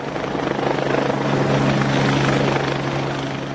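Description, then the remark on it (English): A helicopter drones loudly, its steady rotor thrum and engine whine holding constant with a slight swell, no voices heard. It is used to move World Economic Forum delegates past protesters blocking the entrances to Crown Casino. “With thousands successfully blocking the many entrances to Crown Casino, the organisers were forced to use helicopter, boat or brute police force to move the delegates.”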